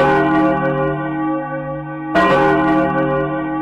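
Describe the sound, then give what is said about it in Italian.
Church bells in Lugano ring out loudly, one long resonant toll humming away before a second strike lands, its rich overtones lingering with no voices present. “Le campane appartengono alla nostra storia, che iniziò proprio in quest'angolo di periferia.”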